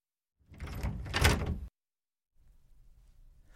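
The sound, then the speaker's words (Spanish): A door is opened very carefully onto a hallway, sliding slowly with a sustained scraping sweep lasting over a second, followed by silence and then a faint, low rumbling in the background. “Abriendo la puerta con mucho cuidado, salieron al pasillo.”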